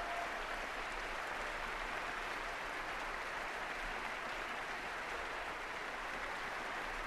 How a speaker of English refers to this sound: He's turned over his violin to someone standing backstage, and he's going to greet the applause for a job well done.